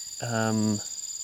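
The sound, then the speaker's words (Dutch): A fly buzzes for just over half a second, a low droning hum that swells and cuts off, over a faint, steady high-pitched chirring in the background. “Sorry, een vlieg.”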